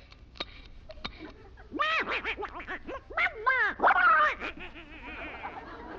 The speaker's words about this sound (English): Now, quiet, everybody. That duck is going to fly right over our heads.